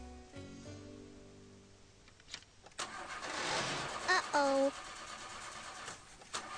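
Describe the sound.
A car engine cranks and sputters in cold, snowy weather, struggling but never catching, its churning whir rising and falling for several seconds while a voice briefly exclaims over it.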